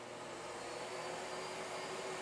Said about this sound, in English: put the vacuum cleaner back on. Because I want to tell you something secret. I don't want anybody to hear. So I'm putting the vacuum on so the neighbors don't hear.